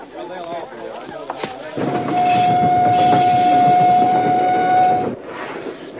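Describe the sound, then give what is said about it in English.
A moving train rolls loudly on its rails, a dense rumbling roar lasting several seconds with a steady high whistle-like tone over it; faint voices murmur before the roar rises. “Nothing much is going to happen on a moving train.”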